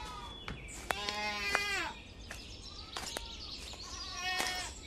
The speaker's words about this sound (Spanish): en las zonas de pendiente pasen cabras rubias en la hierba verde.